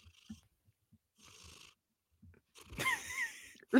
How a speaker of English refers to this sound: He's purring really loud. I don't know if that came through in the mic or not.